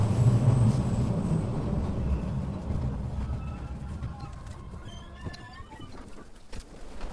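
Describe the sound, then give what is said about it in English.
A heavy train rumbles past, its deep roar slowly fading away while faint metallic squeals and clicks of the wheels rise toward the end. No one speaks. “The destination of this train is Brain 3.”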